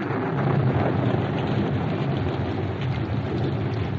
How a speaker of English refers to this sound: As they were about to leave the shop, a storm broke.